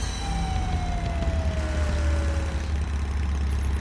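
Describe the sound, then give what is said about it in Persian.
A motorcycle taxi engine idles with a steady, deep rumble throughout, while a thin falling whine glides downward over it like a siren winding down. “موتورسیکل تاکسی بزنید بغل.”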